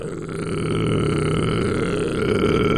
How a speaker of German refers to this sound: Sing mal den tiefsten Ton, den du singen kannst.